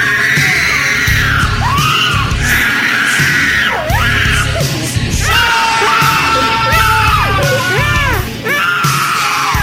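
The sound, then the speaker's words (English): A boy screams and wails continuously in a loud, violent tantrum over food, shrill rising and falling cries piling over one another with barely a pause for breath. “Let me show you all what this scream is like.”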